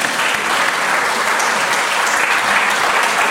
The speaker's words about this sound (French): Alors là, aux Toulousaines et aux Toulousains, de s'applaudir eux-mêmes, quand même.